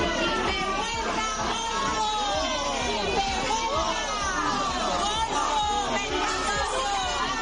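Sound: crowd of protesters shouting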